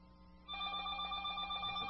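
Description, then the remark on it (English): After a moment of quiet background hum, a telephone starts ringing on the Rant Radio call-in show, a bright, steady bell tone that continues loudly until the end, with no one speaking. “That's full blown. I'll answer it.”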